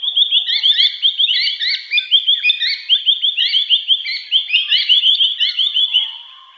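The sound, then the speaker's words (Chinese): A continuous stream of loud, harsh chattering calls from noisy miners, a bird native to Australia, rapid repeated high-pitched notes overlapping with no pauses, with no voices present. “大家其实看到了那个鸟就知道为什么管它叫 noisy minor， 因为它们就是真的是叽叽喳喳的。”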